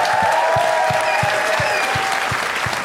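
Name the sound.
audience applause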